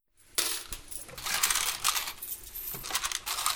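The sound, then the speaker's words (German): Coins clatter and jingle continuously in a cash register tray, a bright, dense rattle of metallic clinks with brief louder spills, heard on their own without any talking, as a shoemaker prepares the till in his shop at 7:45 in the morning. “Trinkt einen Kaffee und bereitet die Kasse vor.”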